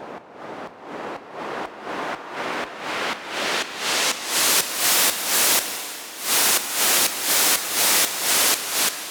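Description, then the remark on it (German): A synthetic noise sound effect: rhythmic bursts of hissing noise pulse steadily, about two per second, growing brighter and louder before settling, the noise slowly sinking into a smeared reverb tail between the pulses. No voices. “So, da ist dieser Ausklang schon und du hörst, wie das Rauschen dann so langsam auch mit dem Hall noch im Hall versinkt.”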